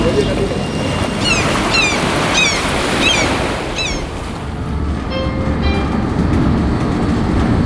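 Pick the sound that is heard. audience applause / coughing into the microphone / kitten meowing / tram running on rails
tram running on rails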